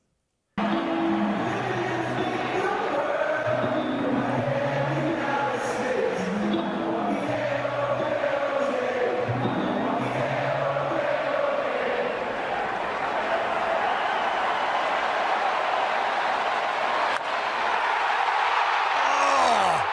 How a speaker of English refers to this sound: I mean, so they're all cheering because they sang the song, right? So they're cheering themselves, and then there's like a 1.5 second delay, and then he hits it.